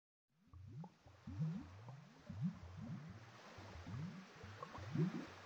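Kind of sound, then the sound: nature, ocean waves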